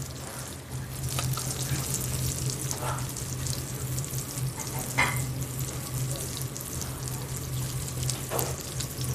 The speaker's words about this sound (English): And you can hear that. If you can hear that rosemary, I mean, you can hear that almost kind of crackling. And you can see it too.